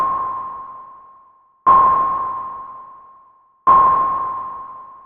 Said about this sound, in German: Genau, ein Echolot.